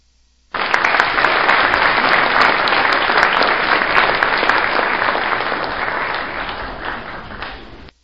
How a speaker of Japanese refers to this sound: はい、まあ、軽く拍手したところで、おっと、ここで予想通りの相手かと。